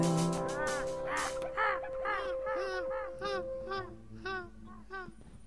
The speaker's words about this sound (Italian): Sì, queste sono le discariche, perché una questione ornitologica. Discariche, non so poi. No, cioè, ci volano i gabbiani. Sono gabbiani.